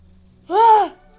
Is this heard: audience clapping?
no